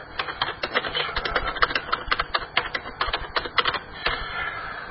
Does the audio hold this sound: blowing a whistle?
no